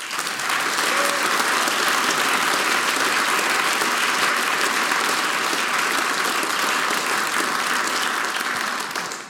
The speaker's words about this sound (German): Einen großen Applaus für unser heutiges Sumpt-Team.